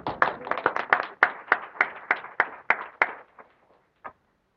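A short burst of applause from a small group in the Paradovich Gallery, welcoming the chair of the Anchorage YMCA Board of Directors: quick overlapping claps that build briefly, then thin out and fade over about four seconds, ending with one last clap. No one speaks.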